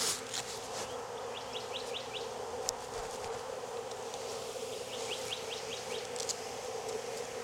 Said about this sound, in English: There's probably no finding her. There's just too many bees.